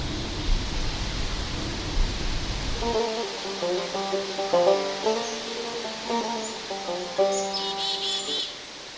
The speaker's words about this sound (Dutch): Gaat nu lekker waaien. Ja, de wind hoort ons. Ja, nee, waarom? De elementen doen behoorlijk mee.